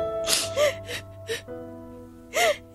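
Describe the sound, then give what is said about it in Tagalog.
A woman sobs in a school faculty room, with shaky, breathy gasps and whimpering catches in her voice coming in uneven bursts, then a short pause before one last heaving sob. “Baka makasama sa'yo yung sobrang pag-iyak. Ano ba kasing nangyari? Bakit umiiyak kang pumasok dito sa faculty room?”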